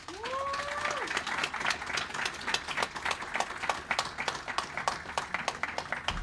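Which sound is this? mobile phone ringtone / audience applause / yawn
audience applause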